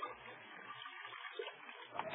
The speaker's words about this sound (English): Cognac. Here's the cognac. I'll pour a little into your dish.